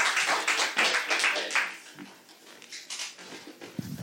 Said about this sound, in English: Kind round of applause for Mayor Clinton Ricks.